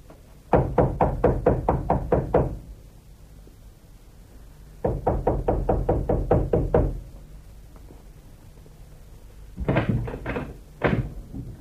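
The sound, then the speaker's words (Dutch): Three bursts of firm, rapid knocking on a wooden door, done to get a guard to open it: two long runs of about eight quick raps each, then a shorter uneven flurry, with pauses of quiet between them. “Dit beste wachter is juist de reden van ons kloppen.”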